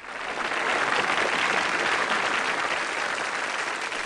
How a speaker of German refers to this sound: Meine Damen und Herren, ich habe nun das große Vergnügen, Ihnen die zentrale Figur dieses Hörspiels zu präsentieren. Applaus für Jacob N. Ladder.